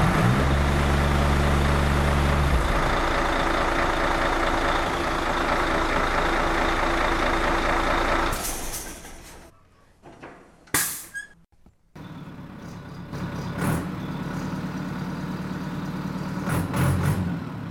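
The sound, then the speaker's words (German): A Mercedes-Benz winter road-service truck, which keeps the road clear every winter in rural Lichtenfels-Gottelsheim, rumbles steadily with a deep low drone, then briefly drops away amid a couple of sharp bursts before the idling engine noise resumes. “Jeden Tag im Winter sorgt dieser Mercedes-Benz Winterdienst-LKW dafür, dass die Straße frei und gut befahrbar ist.”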